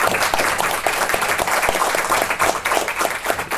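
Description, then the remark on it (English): An audience applauds a panel of journalists at a New Jersey chapter of the Public Relations Society of America event, a dense wash of many overlapping hand claps at an even, fairly loud level throughout, with no one speaking. “So let's please give them a round of applause.”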